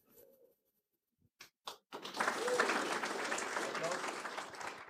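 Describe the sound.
After a brief voice and a few scattered claps, an audience bursts into steady, loud applause for a group of four, continuing dense and even to the end.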